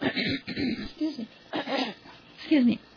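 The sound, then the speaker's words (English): A run of coughs and throat clearing, several rough, voiced bursts in uneven succession with brief pauses between them, fairly loud and with no talking. “Most people have people that can take that out, all that coughing, but we just get this as it is.”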